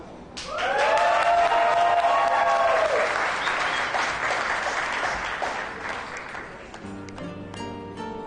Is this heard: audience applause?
yes